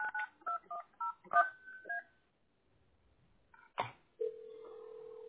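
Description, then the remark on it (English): A quick run of about eight telephone keypad tones beeps out in an uneven rhythm as someone dials on another phone to call a person back, followed by a click and then a steady, continuous phone line tone holding to the end. “I'm gonna call him back on another phone.”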